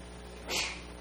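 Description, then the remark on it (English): A single quick sneeze: a short, hissy burst of breath that swells and fades in under half a second, with no talking around it. “Bless you.”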